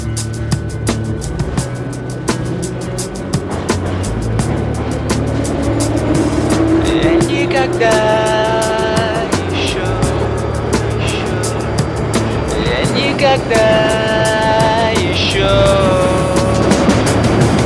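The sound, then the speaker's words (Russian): A metro train pulls away toward Kantemirovskaya station and runs, with a loud, steady rumble and a rising electric motor whine that climbs as it speeds up, then holds in sustained tonal whirs. “Следующая станция Кантемировская.”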